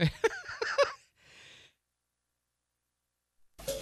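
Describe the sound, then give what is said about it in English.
A quick cluster of two or three harsh, breathy coughs, followed by a soft exhale and then silence until a brief new sound starts at the very end. “Cough.”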